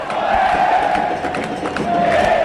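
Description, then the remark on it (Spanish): A crowd of Olimpia fans in Paraguay roars loudly and continuously after Roque Santa Cruz scores the equalizing goal to make it 2-2, a dense wall of cheering and shouting voices with a sustained high chanting tone swelling through it. “Igual Olimpia con Roque Santa Cruz, llegando para definir y poner la paridad aquí en Paraguay, con este griterío de su público.”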